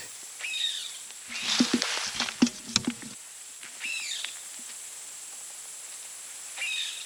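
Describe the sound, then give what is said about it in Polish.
An edible dormouse grunts and hisses in a quick run of harsh, raspy bursts in a mixed deciduous forest, with thin high chirps sounding faintly before and after. “Chrząka.”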